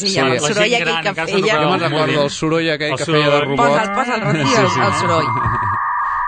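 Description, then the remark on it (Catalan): A voice imitates a 1990s dial-up modem connecting: warbling, screeching vocal squeals followed by steady high beeping tones, loud for several seconds. “el soroll aquell que feia de robot.”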